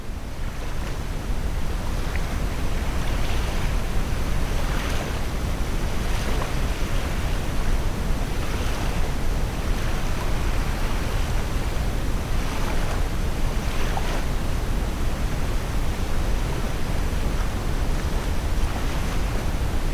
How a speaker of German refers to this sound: Das sanfte Rauschen des Meeres begleitet dich in den Schlaf.